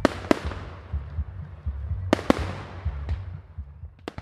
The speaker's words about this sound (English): Shelby went with her mom and dad that night to Freshwater Lake. They bundled up in their mom's pickup truck and counted down together as midnight struck and the fireworks went off over the lake.